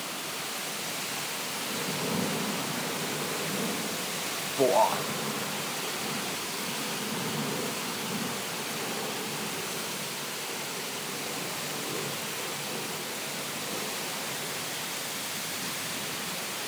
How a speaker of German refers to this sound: Aber Hammerhart, was für ein Regen.